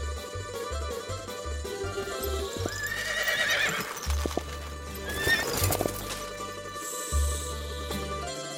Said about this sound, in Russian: Услыхал его конь верный, кинулся на голос родной, да с радости угодил прямо в сад императорский, где Василевс от трудов отдыхал.